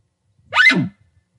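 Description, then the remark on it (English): A person imitates an elk's warning bark: one short, harsh, nasal blast that rises sharply in pitch and then drops, loud and alone against silence. “have you ever seen a warning bark used for something besides saying, hey, there's a coyote”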